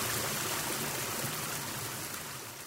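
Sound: river water flowing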